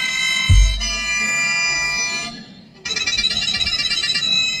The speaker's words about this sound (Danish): Anyways, det med mundharmonikaen er måske lidt dumt, men pointen er, at den kan jo fløjte af sig selv, sådan valros.